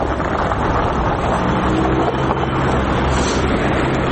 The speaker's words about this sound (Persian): با عبور موترها از جاده ها صدای شکستن یخ ها گوش های آبیران را نوازش میکند، اما این جاده های یخی برای رانندگان مشکل زا شده است.